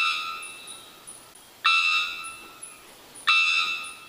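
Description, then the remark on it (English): A three-wattled bellbird's call: fainter ringing notes, then two loud, abrupt, metallic bell-like blasts, each a harsh harmonic tone that holds and slowly fades, with no talking. “The three-wattled bellbird lives in Central America. It makes a thunderous bell-like sound that can carry more than half a mile.”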